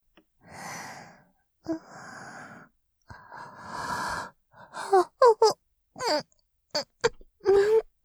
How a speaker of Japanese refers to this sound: 申し訳ありません。お客様の前であくびをしてしまうなんて、私の方こそ、すっかりリラックスしてしまったみたいです。